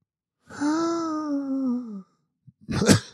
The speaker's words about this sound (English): I just coughed. Almost a perfect transition.